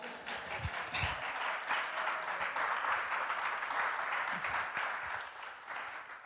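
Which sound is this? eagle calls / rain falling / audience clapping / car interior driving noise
audience clapping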